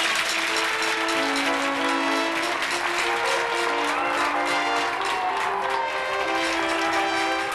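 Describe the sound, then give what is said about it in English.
A theater audience at a magic show applauds after a cut-in-half illusion, in a dense, steady wash of clapping that holds at an even loudness for the whole stretch, with sustained low tones humming beneath it. “Stand right up and take your well-deserved round of applause.”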